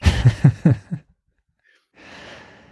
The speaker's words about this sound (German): Falls ihr nachher ein Schnarchen im Podcast vernehmt, bitte ich auch dies zu entschuldigen.